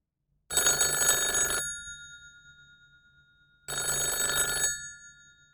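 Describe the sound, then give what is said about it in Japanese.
A telephone rings at about 8 in the evening with a call from a friend: two loud, bright bursts of about a second each, separated by a pause, the metallic bell tone ringing out and decaying slightly after each burst, with no voices. “でも、夜8時ごろに電話がありました。”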